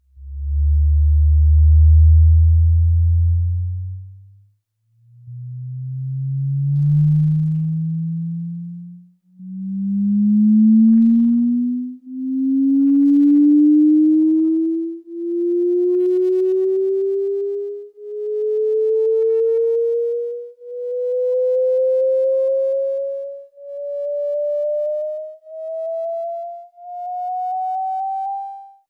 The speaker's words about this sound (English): So the team then put together a recording of the sound waves going through the gas, which has now become MIT's most listened to track on SoundCloud. And here it is.